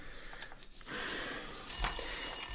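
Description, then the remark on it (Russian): A telephone rings with a bright, trilling bell tone that grows stronger partway through, heard alone at moderate volume with no one speaking. “Но ведь звонок, звонок. Алло. Да кто звонит?”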